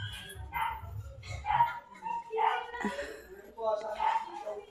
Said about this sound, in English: It's been tied up and I can't take any pictures because the gate is closed. But this puppy's been crying and wailing and wailing. I can't handle this.